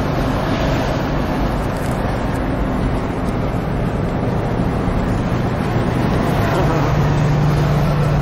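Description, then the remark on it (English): Steady, loud road and engine rumble from inside a moving Volkswagen hippie-style van with flowers on the back, driving to Marseille, with constant wind noise and a low droning hum that strengthens near the end; no one speaks. “So I'm here in the VW. It's like a hippie car, real nice, nice guy.”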